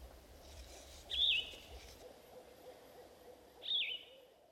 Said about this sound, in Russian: Это лес. На его деревьях живут множество птиц. Пойдем посмотрим на них.